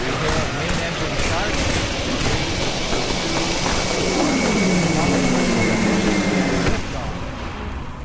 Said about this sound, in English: 15, 13, 12, 11, 10. We are go for main engine start. 8, 7, 6.